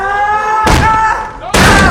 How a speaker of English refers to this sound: He turns around and kicks at the door.